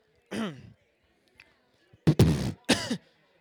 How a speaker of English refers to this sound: I'm just under this little cough. I got a bad cough, you know what I'm saying? But I'm going to try it anyway, you know what I'm saying?